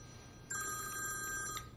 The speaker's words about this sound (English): He looks toward his phone alert